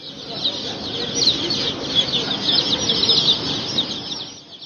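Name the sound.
chickens clucking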